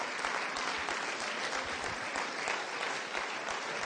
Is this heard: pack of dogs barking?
no